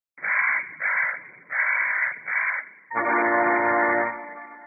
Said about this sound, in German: Der Tannenhäher, ein Steckbrief. Größe, gute 20 bis gute 30 Zentimeter. Farbe, schwarzbraun mit hellen Tupfen. Schnabel, lang und meißelförmig. Und auch wenn es sich nicht so anhört, der Tannenhäher gehört zu den Singvögeln.